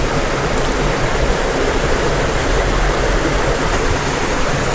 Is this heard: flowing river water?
yes